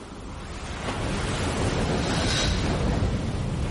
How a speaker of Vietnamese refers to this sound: Tôi thấy mình đang đứng trước một bãi biển hoang vu với tiếng sóng vỗ rền rào.